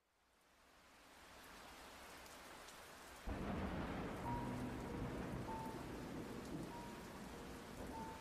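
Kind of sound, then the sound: nature, rain and thunder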